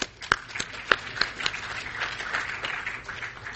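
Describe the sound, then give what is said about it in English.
An audience applauds the last presenter after a presentation, starting with a few sharp, separate claps that quickly merge into a steady, even patter of many hands, moderately loud and lasting a few seconds. “Ladies and gentlemen, can you join me in applauding our last presenter?”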